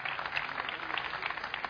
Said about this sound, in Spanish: Un fuerte aplauso para Arona, sí señor.